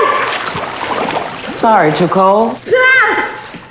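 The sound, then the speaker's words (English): A loud, sloshing splash as a woman is scooped up from her bed and dumped into a tub of cold water, followed by two sharp, high-pitched vocal cries. “She dumps her into a tub of water.”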